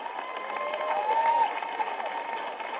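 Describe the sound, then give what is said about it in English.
A church crowd claps and cheers steadily throughout, a dense wash of applause with a few whoops rising above it, holding at a fairly even loudness. “And if you're new here, you're going, why are they clapping about the numbers?”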